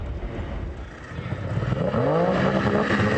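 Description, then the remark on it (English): A small National Guard patrol boat motor, piloted by Fish and Wildlife agents, putters steadily down flooded Robert E. Lee Boulevard. Its low engine drone rises in pitch and grows louder partway through as the throttle opens, with no voices. “As one of the boats putters down Robert E. Lee Boulevard”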